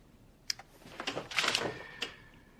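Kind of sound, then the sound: machine, typing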